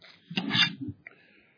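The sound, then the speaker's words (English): A quick drink of water: a soft bottle or glass clunk and a short burst of gulping and sipping, then a faint fading clink. Quiet overall, with no talking. “Sorry, I can't get enough water.”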